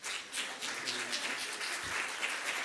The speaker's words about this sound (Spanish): un aplauso por favor.